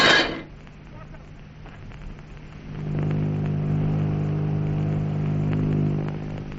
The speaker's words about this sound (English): What's that? It's a plane. Motors. It's a ship. It's their ship.